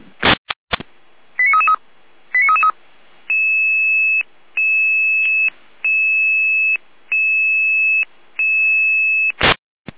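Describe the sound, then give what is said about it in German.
Emergency dispatch alert tones alerting fire brigade unit Florian Remschütz 43.1: a few clicks and two quick bursts of chirping tones, then a steady series of six long, even electronic beeps with short gaps, loud and clear, no voices. “Alarmierung für Florian Remschütz 43.1.”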